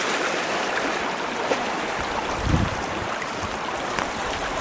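flowing creek water

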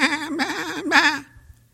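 sheep bleating

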